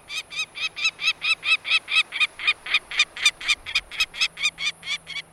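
A peregrine falcon gives a long, steady series of harsh, scratchy cacks, about three or four per second, loud and rasping, repeated some twenty times with no voices.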